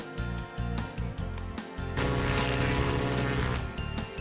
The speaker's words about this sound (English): Did you hear that sound? Let's listen to it again. What could it be? I think I know. It's a boat horn! A boat horn! That's right!